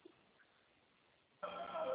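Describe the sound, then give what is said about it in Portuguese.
After more than a second of near silence, a telephone abruptly starts ringing, a loud, bright electronic trill with a high tone that continues to the end. “Pra ajudar o telefone, não para de tocar.”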